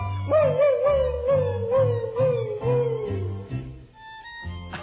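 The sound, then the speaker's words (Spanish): A dog with a toothache lets out one long, wavering howl that slowly drops in pitch and fades after about three seconds, over a steady, rhythmic musical backing with a thumping low beat. “A este perro le duele la muela porque no es perro norteño, no es de Perros Bravos, Nuevo León.”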